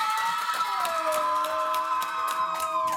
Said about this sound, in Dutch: Ik geef graag het woord aan, geef ze natuurlijk een groot applaus, de leerlingen van DIS.